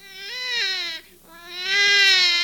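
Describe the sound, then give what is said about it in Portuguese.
A baby boy wails in two sustained, high-pitched cries separated by a brief gasp for breath, loud with no talking. “É um menino? É a sua cara. Onde você vai? Ele está chorando.”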